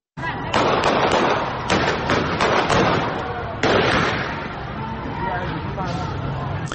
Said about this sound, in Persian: در برخی از تصاویر برخورد نیروهای حکومتی نیز دیده می شود و از جمله در تصاویر کوتاهی از باغ ملک در خوزستان صدای شلیک تیر شنیده می شود.